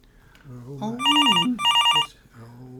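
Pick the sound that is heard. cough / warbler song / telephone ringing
telephone ringing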